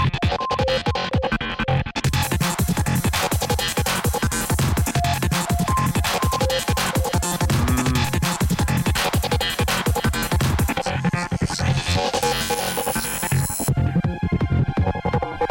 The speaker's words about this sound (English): Goa? Is this Goa Trance? I've never heard Les play music like this on his shows before.